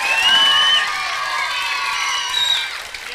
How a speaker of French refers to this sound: Eh bien, nous vous demandons de l'applaudir très très très très fort.